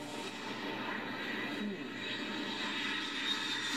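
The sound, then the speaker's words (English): A steady, droning airplane engine roars continuously as people board the plane, a broad constant rumble with no breaks, like a propeller aircraft. “It feels strange getting into a plane that we're not gonna jump out of now.”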